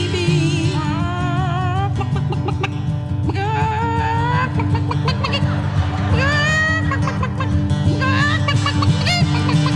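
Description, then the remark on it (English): A woman's voice mimics a Yonkers chicken cackling after laying an egg, a skill that won a contest in Swartz Creek, Michigan, with repeated rising squawks and clucks over a steady, loud, droning musical backing. “Yonkers chicken laying an egg, honey.”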